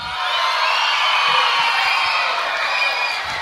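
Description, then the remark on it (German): An audience applauds and cheers for a band that plays ska, rocksteady and reggae, a dense, steady wash of clapping with scattered whoops that holds at an even loudness throughout. “Applaus für die Band, bitte!”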